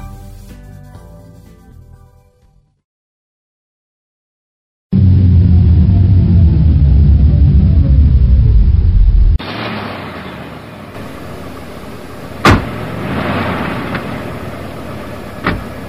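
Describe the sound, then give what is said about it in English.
A deep, loud engine rumble drones steadily, then gives way to a busy truck stop ambience with a broad hiss of traffic and a couple of sharp metallic clanks. “I can't believe I'm stuck in this truck stop for the night.”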